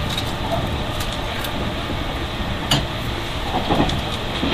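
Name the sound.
train running on rails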